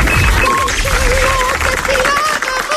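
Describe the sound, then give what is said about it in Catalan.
An audience applauds steadily for Bona nit for a few seconds, a dense, loud wash of clapping with faint whistle-like tones or music threading through it. “Un aplaudiment pel Bona nit i tots aquests temples.”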